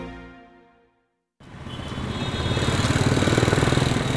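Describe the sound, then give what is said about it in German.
Busy, dense city traffic in Mumbai with the rattling buzz of honking auto-rickshaw engines, pulsing steadily and growing louder. It starts abruptly after a fading musical tone and a brief silence. “Der Verkehr in Mumbai ist dicht. Tarun weicht hupenden Autorikschas aus”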